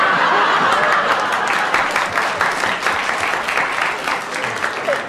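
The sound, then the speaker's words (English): Sustained applause from an audience, a dense steady patter of many hands clapping for about five seconds, mixed with scattered chuckles and laughter. “Do you mean the audience clapped?”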